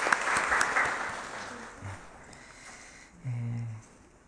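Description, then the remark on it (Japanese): A church audience at a worship service claps warmly to welcome many students from 加水中高 junior and senior high school on their church attendance day, a dense wash of overlapping hand claps that starts strong and gradually thins out, with a brief low murmur of voices near the end. “一人一人を紹介することはできませんが、大きな拍手を持って歓迎したいと思います。”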